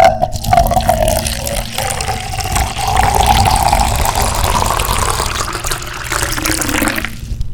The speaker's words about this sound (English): Perfect, clear Fillmore Water District water right there.